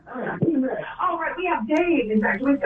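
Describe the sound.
A radio plays in the background of a phone call, its muffled, tinny voices coming through the narrow phone line as a steady, continuous murmur.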